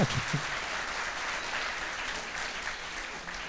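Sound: audience applause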